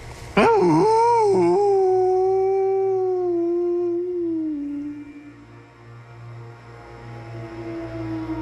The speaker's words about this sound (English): I just heard the wolf howl just a couple hundred yards away. I've got a trail that goes up that direction. He might be walking on my trail.